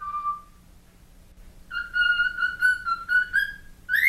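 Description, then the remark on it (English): A man whistles a short steady note, a pause, then a pet bird answers with a longer wavering whistle with small pitch dips and a quick rising chirp at the end, fairly clear. “Me first, then the bird.”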